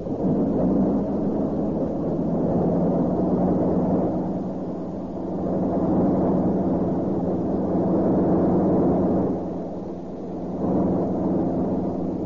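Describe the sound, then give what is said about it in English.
Airplanes take off one by one in the chill morning air: a loud, steady engine roar with a deep droning hum that swells and eases in waves, continuous, with no voices. “One by one, the swift airplanes take off in the chill morning air.”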